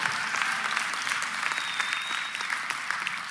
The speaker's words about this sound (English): If that sounds like you, go ahead and clap your hands.